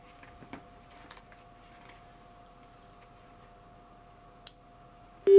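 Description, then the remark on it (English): A phone line hums with a steady dial tone while faint, scattered clicks sound as an overseas number to Germany is dialed, with the rest of the number blocked, ending in a sudden loud electronic tone at the very end. “What we're going to do is dial overseas to Germany and block out the rest of the number.”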